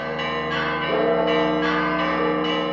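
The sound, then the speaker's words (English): Church bells of the Church of the Holy Sepulchre in Jerusalem's Old City ring out, summoning worshippers to Easter Mass, in a dense, overlapping peal, several bells striking in quick succession with long ringing tones that blend into a continuous clangor, fairly loud, with no voices. “A short time later, bells summoned worshippers to Easter Mass at the Church of the Holy Sepulchre in Jerusalem's Old City.”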